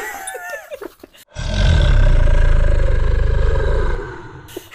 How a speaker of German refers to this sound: Warum machst du nicht da einfach dieses Brüllen vom Drachen drunter?